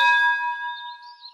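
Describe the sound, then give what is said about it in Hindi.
A single bell is struck once and rings out with a clear metallic tone, its steady overtones slowly fading over about a second with no voices present. “Bell bell bell bell bell यानी घंटी।”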